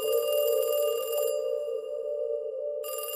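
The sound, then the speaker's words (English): A telephone rings loudly: a bright electronic trill that sounds, fades briefly into a lingering tone, then starts ringing again. No one speaks. The phone rings at night in a soundproofed building, and the call is coming from the building's machine room. “Then this one night, the phone rings.”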